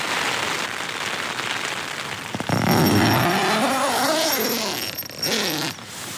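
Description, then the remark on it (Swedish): A raspy tent zipper is drawn open in a long pull of about three seconds, its pitch wavering, over a steady hiss of rain showers pattering on the tent fabric. “Det ska bli spännande att dra upp tält. Dragkedjan här.”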